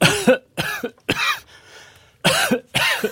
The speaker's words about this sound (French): Depuis combien de temps avez-vous attrapé cette toux ?